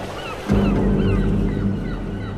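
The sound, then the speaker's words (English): Several seagulls cry out in short, falling calls in Liverpool, scattered over a steady low rumble of wind and water that swells in after a moment. “No ferries, just the seagulls.”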